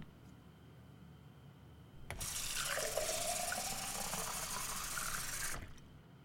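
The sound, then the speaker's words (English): Water streams steadily into a cup for about three and a half seconds, fairly loud, its pitch climbing as the cup fills, then cuts off abruptly. No one speaks. “Where do you keep your cups? I really need some water.”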